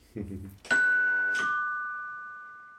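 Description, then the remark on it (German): A doorbell rings out a clear two-note ding-dong, the second tone lower, both ringing on and slowly fading. It is fairly loud, preceded by a brief murmur of voice. “Ding Dong!”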